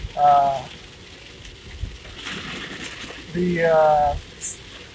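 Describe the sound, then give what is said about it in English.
Steady, dense rain outside hisses and patters throughout, a continuous wash of noise, with a couple of brief voice sounds rising over it. “Rain's getting loud.”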